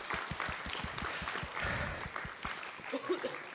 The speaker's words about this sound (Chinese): 拍手欢迎起来